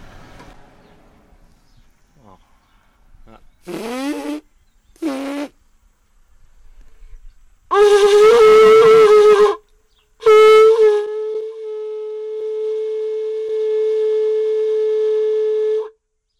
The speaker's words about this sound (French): de te demander de sortir un son d'un de ces olifants ou... Donc je vais essayer, parce que chacune a un perçage différent. Mmh. Et donc il faut juste un petit temps de réadaptation sur le perçage.